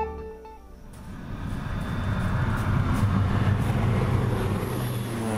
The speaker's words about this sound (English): It's a regular week in Ecuador's banana-growing region near the Pacific coast. A fumigation plane flies low overhead, spraying pesticides across the banana plantations. That happens once a week, 45 weeks a year.